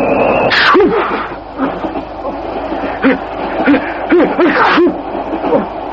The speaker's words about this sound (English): Thought you were going to come apart at the seams of those well-cut city pinstripes, huh? Most impressive display of sneezing I've witnessed in years.